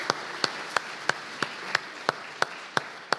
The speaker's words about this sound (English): Can you clap?